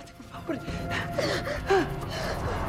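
human body sound, gasp

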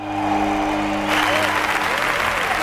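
crowd, crowd applauding

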